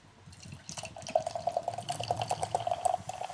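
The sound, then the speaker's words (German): Golden, slightly cloudy beer pours steadily into a glass, a gurgling stream with fine fizzing and crackling that starts after a soft moment and keeps going to the end. “Es ist golden, es sprudelt ganz schön fein.”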